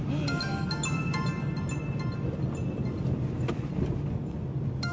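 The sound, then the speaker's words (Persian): A mobile phone ringtone plays a short melodic chime, fairly soft, as a call comes in from the father, over the steady low rumble of a moving car's road and engine noise while it is being driven. “باباست ببین چی کار داره.”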